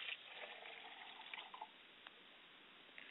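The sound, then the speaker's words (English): Liquid is poured out as a libation to the north in a steady, soft trickle for a few seconds, with faint splashes and small drips near the end. No one speaks, and the sound stays quiet. “We pour libations to the four cardinal directions, and I pour libations to the north, and I say, Ashe.”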